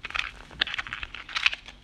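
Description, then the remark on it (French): A box holding small paper slips for a prize draw being opened, with a run of irregular crinkly, papery rustles and a couple of sharper crunches, fairly quiet throughout, with no voices. “J'ouvre la boîte.”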